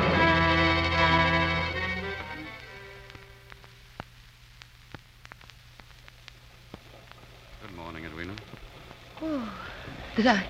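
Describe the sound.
Steady morning rain in India hisses softly with scattered sharp drips, following a fading tonal sound at the start; faint voices rise briefly over the rain near the end.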